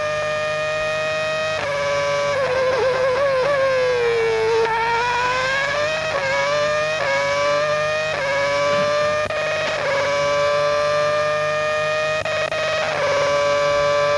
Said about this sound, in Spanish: Y escuchamos los autos también y los motores.